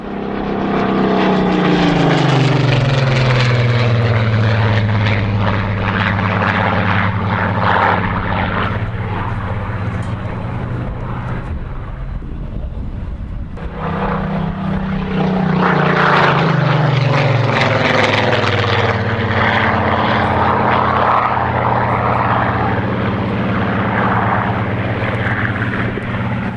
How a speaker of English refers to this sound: Sound of six Merlins from the Battle of Britain Memorial flight.